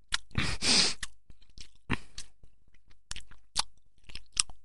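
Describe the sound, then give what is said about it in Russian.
Someone chewing pig feed from a pig trough noisily with wet, crunchy bites, coming in uneven bursts with short pauses between, fairly loud, with no talking. “Ну как же я опустился, ем из свиного корыта.”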